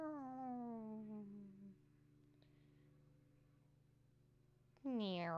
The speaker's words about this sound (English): Meow.